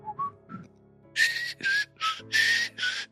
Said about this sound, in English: that's the song that I constantly whistle randomly. What's the song? Whistle it.